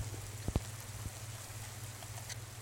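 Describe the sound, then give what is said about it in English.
A soft, steady hiss of rain falling, with a few sharper taps near the start and a low hum running underneath; no one speaks. “Raining woke me up.”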